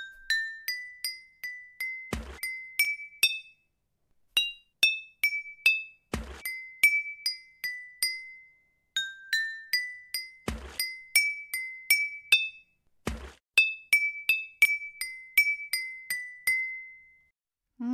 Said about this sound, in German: mir sagen könnt, welches Lied jetzt in dieser Wasserorgel gespielt wird. Wasserorgel 3.